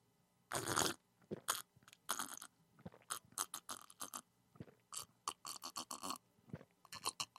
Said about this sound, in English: We open up our tea. Can you hear the lid coming off the tea? It's a very sensitive microphone.